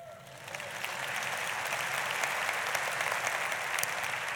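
A large crowd at a church service claps steadily, a dense, sustained wash of applause with no voices, holding at an even, moderate loudness throughout.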